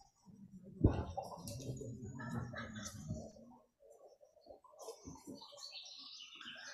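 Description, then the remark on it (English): Several exotic birds call and squawk: harsh, harmonic cries at first, then a flurry of higher, quicker chirps over a quiet background, with no talking. “Where are the exotic birds? Oh, there they are.”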